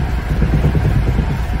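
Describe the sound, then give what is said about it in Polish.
A loud, steady low engine drone with a buzzing, uneven rumble of a vehicle's whole door shaking from the vibration, during a ride with eight people squeezed inside, continuous for the whole moment, with no voices. “Całe drzwi się trzęsą.”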